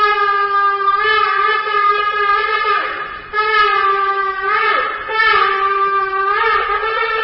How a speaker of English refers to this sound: The sound of the shofar, a ram's horn, at the St. Regis Hotel in Abu Dhabi was the signal for the beginning for the talks as the Israeli delegation met with UAE negotiators.